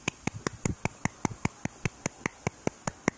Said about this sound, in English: I'm clapping for you. That's me clapping for you because I'm proud of you.